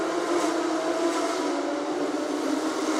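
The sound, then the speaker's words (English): A steady, dense roar of flat-six race car engines running together at moderate pace behind a safety car during a race, loud and continuous with no sharp changes, and no one speaking. “Even behind the safety car, these flat sixes sound absolutely phenomenal, don't they?”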